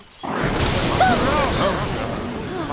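A nearby lightning strike in a tropical rainforest: after a beat of silence, a sudden loud thunder crash bursts in and rolls on as a dense, steady roar, with faint wavering higher tones threaded through it.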